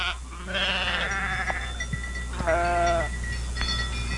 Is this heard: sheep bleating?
yes